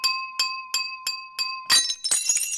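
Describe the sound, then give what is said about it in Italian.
In a radio drama, Tre lettere from the series Migranti by Laura Forti, presented by Swiss radio-television, a fork taps a glass at a family dinner five times in a steady rhythm, each clink ringing with a clear tone, then a quick flurry of louder, clattering clinks. No voices. “Posa la forchetta, cara. Abbiamo già fatto il brindisi al nonno.”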